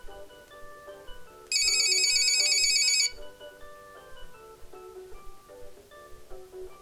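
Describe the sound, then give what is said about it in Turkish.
A telephone rings once in a bright, electronic trill lasting about a second and a half, standing out clearly over soft background music that plays throughout. “Ve telefonu duyuyor.”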